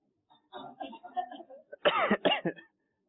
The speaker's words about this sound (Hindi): अब एक मरतबा तमाम मदनी मुन्ने खांस के दिखाइए और सर कहाँ रखेंगे? जी खांसी है।